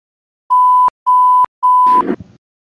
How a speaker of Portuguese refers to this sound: Dá o bip, editor.